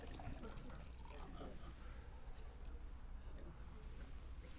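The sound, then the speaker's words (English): A person pours water steadily into a glass for several seconds, a soft continuous splashing trickle, fairly quiet, with faint muffled background noise underneath. “Let me get some water.”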